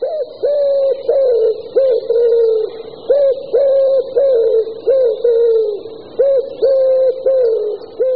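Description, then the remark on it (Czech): A common wood pigeon coos repeatedly in a forest, its hollow, mellow phrases rising and falling in a steady, loud rhythm, with a faint constant high hum in the background. “Asi si tipnete správně, že se jedná o holuba, máte přeci zkušenosti s domácími nebo s divočelými holuby z měst i z venkova.”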